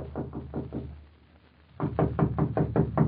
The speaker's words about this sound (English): Knock on the door, please